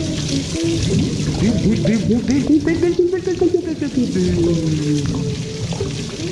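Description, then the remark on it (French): Bath water bubbling and gurgling in a steady, busy stream of warbling blips as someone makes big bubbles in their bath, loud, with voices present alongside. “Ah, qu'on est bien quand on est dans son bain. On fait des grosses bulles, on joue au sous-marin.”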